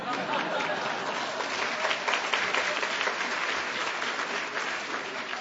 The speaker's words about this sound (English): Gore Vidal, thank you. That was not enough applause.